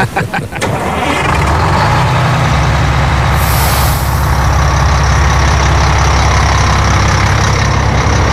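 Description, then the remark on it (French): A tour bus carrying American tourists near the source of the Jordan River cranks and starts, then settles into a loud, steady diesel rumble, with a sharp hiss of air brakes releasing a few seconds in. “Time to go back to the bus.”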